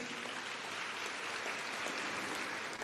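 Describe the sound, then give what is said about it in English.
Steady, dense clapping from a large crowd, a round of applause for the board, management and staff of Merceta; a continuous wash of applause that holds at an even level throughout without any voices rising above it. “For that, they also deserve a huge round of applause.”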